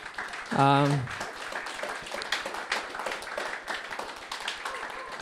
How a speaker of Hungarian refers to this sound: Úgyhogy én azt gondolom, hogy nem kell fukarkodnunk egy jó nagy tapssal ő feléjük.